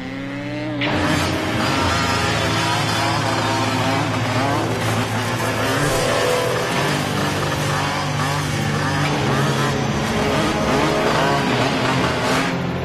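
A motorcycle engine roars into a loud, sustained rev after a brief quieter opening as its rider rides through the pines, its pitch rising and falling steadily as it runs on without pause. No voices.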